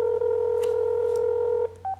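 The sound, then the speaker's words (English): A steady electronic telephone tone hums through a speakerphone for most of the moment as a call is placed to a mayor, cuts off, then a single short beep follows. Nobody speaks. “And you can hear the ringing.”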